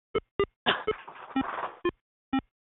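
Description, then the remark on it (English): Short electronic video-game beeps from a phone: several quick bright tonal blips, irregularly spaced, with a longer buzzy, warbling burst in the middle. No one speaks. “Sounds like a video game there.”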